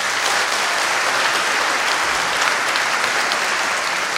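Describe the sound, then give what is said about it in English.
An audience claps steadily for several seconds to show they think Donald Trump would beat Bernie Sanders in a presidential election, a dense, even wash of many hands with no voices rising above it and no break in the sound. “So if you think Donald Trump would beat Bernie Sanders in a presidential election, please clap now.”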